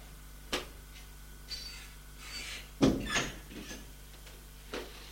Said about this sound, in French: On a frappé à la porte.